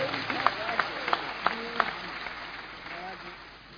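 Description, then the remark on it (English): An audience claps for Jesus in a steady rhythm, with five or so sharp, evenly spaced claps standing out before the clapping fades into a softer murmur of voices. “Come on, clap for Jesus.”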